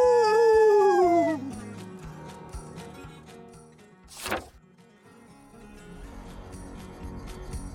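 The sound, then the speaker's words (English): A loud chorus of coyote howls, as the pack runs off into the woods, rises and then slides downward, fading out after about a second, followed by a quick whooshing swish and a faint, low rustling background. “The coyote looks at us, nods, and they all whisk away, back into the woods, howling excitedly together as they vanish.”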